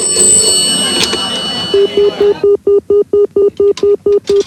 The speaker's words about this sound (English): The phone rings in a pub.